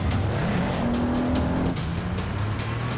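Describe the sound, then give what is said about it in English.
A car races with its engine roaring, tires squealing in long rising and falling whines as it speeds and swerves, running stop signs and red lights to escape a pursuing car; loud and continuous with no one talking. “And he's still coming after me, he's still on my tail. So I start running stop signs, running red lights.”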